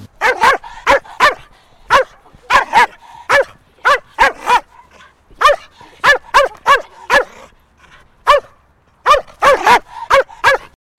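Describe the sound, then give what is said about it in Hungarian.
A dog barks repeatedly and forcefully in quick, loud bursts, short clusters of sharp barks separated by brief pauses, sounding agitated and defensive, in a protection-dog sport exercise where the owner holds the dog on a leash while a man attacks them. “Akkor ugye van a őrzővédő szituáció, ez egy kutyás sport, ahol a gazda fogja a kutyát órázon, és egy csúnya bácsi megtámadja őket, és akkor azt el kell hárítani.”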